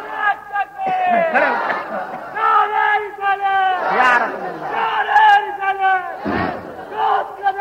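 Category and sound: crowd, crowd chanting slogans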